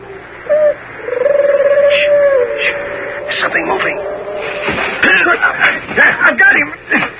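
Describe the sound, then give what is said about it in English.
Low, hollow owl-like hooting calls that are not owls but Minotauri talking to each other, one long drawn-out hoot stretching over a couple of seconds, followed by muffled voices and scuffling noises. “Those aren't owls. It's Minotauri talk.”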